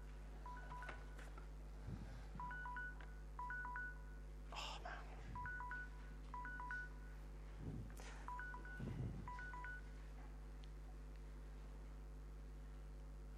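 A timer alarm, set by mistake instead of a stopwatch, goes off in short bursts of paired electronic beeps at a steady mid-high pitch, repeating several times over a low hum, with a few brief rustling knocks in between.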